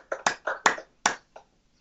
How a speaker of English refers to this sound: So everybody, unmute, would you? And then clap for the three folks that have been recognized today, so they can hear your hand claps. Congratulations, guys.